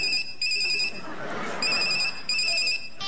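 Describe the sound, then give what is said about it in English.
A telephone rings in repeated electronic bursts as a quiz contestant phones a friend, three clear pulses of a bright, steady tone separated by short gaps, moderately loud over a faint background hum. “Can I phone a friend? All right, if you must. Who are you calling?”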